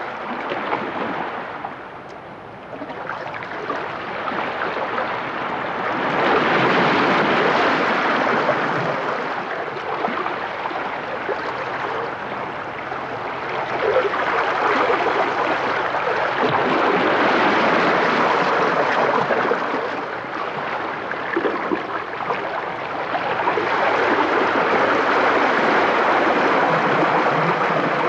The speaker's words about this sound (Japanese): あれから10年、辰舞崎は名前の通り、悪天候時にはまるで竜が舞っているかのような荒波になりますが、この日はとても穏やかで、小さな波が消える瞬間の音まで優しく聞こえてきました。